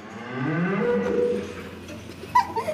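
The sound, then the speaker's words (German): A hand-raised, bottle-fed cow on a farm in Erming moos once in a long, low, drawn-out call that swells and fades over about a second and a half, followed by faint shuffling and small background noises. “meine Lieblingskuh steht hier”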